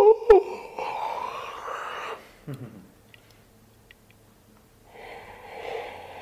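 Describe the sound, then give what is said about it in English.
A person demonstrates a deep yawn: a long breathy inhale, a short voiced groan sliding downward, a quiet pause, then a softer breathy exhale. “We all know what a yawn looks like. It doesn't look like this. No, it looks like...”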